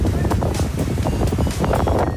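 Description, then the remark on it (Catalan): Strong wind gusts in Catalonia, on a Thursday when the wind paralyses the country, buffet the microphone in a continuous, loud roar, with low rumbling and bursts of hissing that swell and fade every fraction of a second. “Ens despertem amb 13 graus a Banyoles, 7 a la Panadella i 13 a Gandesa, un dijous en què el país quedarà pràcticament paralitzat pel vent.”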